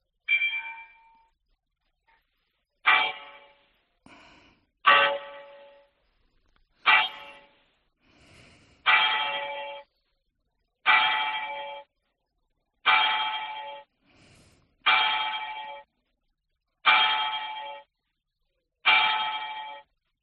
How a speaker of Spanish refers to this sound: Y deben estar a punto de comenzar a sonar las señales horarias. Primero hay cuartos, ¿no? Sí, ahora ya tocan los campanillos.